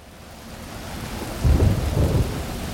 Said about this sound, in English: Rain and wind came, a lightning-laced squall in which the Cromwell tipped and rolled.